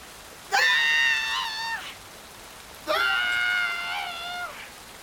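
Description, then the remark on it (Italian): A woman screams in the pain of childbirth, two long, strained, high-pitched cries separated by a brief pause, loud against a faint hiss, with no talking. “gridava, lacerata dai dolori del parto.”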